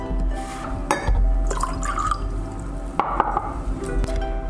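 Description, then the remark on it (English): Milk heated to a simmer is poured steadily into a bowl over butter, sugar and salt, a continuous splashing trickle with a few soft clinks of the container, moderately loud with no talking. “Then once you've heated up your milk, let's pour it over the butter.”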